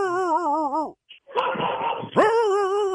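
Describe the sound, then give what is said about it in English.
A dog barks, its loud wavering yelps dropping in pitch, then a rough, raspy burst before another rising, drawn-out bark. Nobody talks over it. “Can you stand closer to the dog?”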